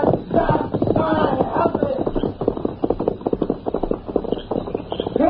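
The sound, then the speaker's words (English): Horse hooves galloping as a horse is ridden away, in a rapid, steady drumming rhythm, the clatter of many hoofbeats filling the whole stretch at a fairly loud level with no voices over it. “Get on that horse. That's it. I will take a ride. Easy, big fella. Come on, Silver.”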